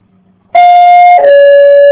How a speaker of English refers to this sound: That's the most interesting bell I've ever heard. Someone's at the door.